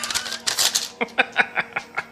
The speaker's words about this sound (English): Nice. I just teared up some paper